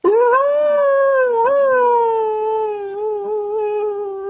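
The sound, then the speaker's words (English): A person imitates a wolf howl with one long, loud, sustained vocal tone that rises briefly, then slowly sags and wavers in pitch. No other voices or sounds. “Was I howling like a wolf?”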